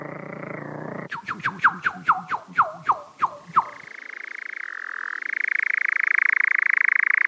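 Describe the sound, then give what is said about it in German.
A European nightjar (Ziegenmelker) churring: a run of about ten sharp, descending notes gives way to a long, steady mechanical trill that holds evenly and grows slightly louder, with no voices. “Seinen Namen hat diese Nachtschwalbenart mit dem seltsamen Gesang dem römischen Naturkundler Plinius dem Älteren zu verdanken.”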